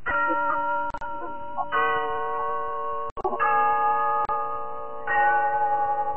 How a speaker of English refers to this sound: Yes, there's the clock in Glen Falls Town Hall, telling us it's time for Rinso's story of Big Sister, brought to you by Soapy Rich Rinso.